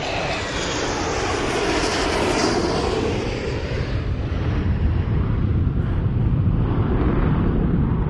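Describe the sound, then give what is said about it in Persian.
A jet airplane taking off on a cold Azar evening at 6 pm on a Thursday, its engine roar loud and continuous with a broad rumbling low end and a hissing high whine that slowly fades as it climbs away. No one speaks. “میخ من یه هواپیماست که درست یه غروب سرد آذر ساعت 6 عصر پنجشنبه پرید.”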